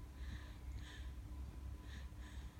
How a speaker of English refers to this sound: She's naturally doing abdominal breathing. This is our natural state when we're calm and happy. And if you listen, it almost sounds like she's doing Ujjayi breath.